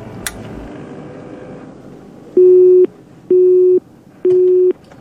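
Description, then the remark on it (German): Three evenly spaced electronic busy-signal beeps from a phone call to family that cannot connect because there is no network, each about half a second long, sounding clearly over a faint background rumble after a brief quiet lead-in. “Ich versuche erstmal meine Familie anzurufen.”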